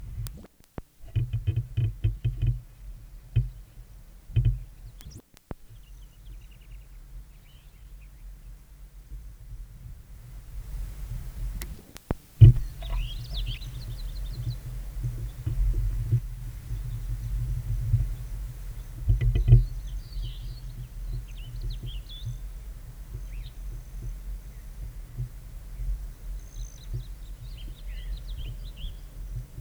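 A passing intruder male hummingbird's wing trill buzzes briefly, then the resident male broad-tailed hummingbird on its perch gives scattered high, thin chirps at it over a steady low rumble, with a few sharp clicks mixed in.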